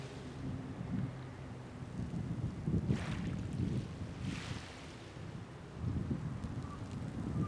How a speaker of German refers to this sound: Hier oben auf dem Friedhof ist es sehr, sehr windig.